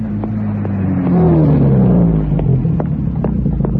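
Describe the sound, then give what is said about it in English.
A car engine rumbles, its pitch rising and falling as it revs while pulling up and idling in the rain, with occasional faint clicks and a steady background hiss of rain. “Can I offer you a lift?”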